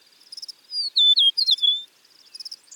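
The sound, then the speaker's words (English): A Western meadowlark sings a bright, flutey phrase of slurred, descending whistles, clear, framed by faint high chirping notes before and after, with no talking. “People enjoy the look and sound of the Western meadowlark so much that this is the official state bird for six U.S. states: North Dakota, Nebraska, Wyoming, Montana, and my home state of Oregon.”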